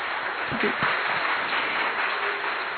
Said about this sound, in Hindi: तो इसलिए एक बार आपके लिए हम जोरदार तालियां, क्योंकि सभी लोग भोजन से खुश है ना, खुश है तो और जोर से तालियां।